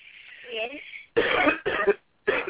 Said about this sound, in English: It's okay. She's just coughing up some cold. I'm just coughing up cold, okay?